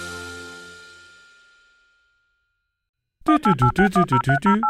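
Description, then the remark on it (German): A phone number being dialed: a quick, loud run of about nine short tonal beeps, coming after a fading ringing tone and a brief pause of silence. “Ich hoffe, er geht ans Telefon.”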